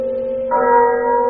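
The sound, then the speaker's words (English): A clock bell chimes with a sustained, ringing tone; a second strike joins halfway through, brightening the sound as the resonant hum carries on, loud, with no voices. “But as the bell sounded, light flashed up in the room.”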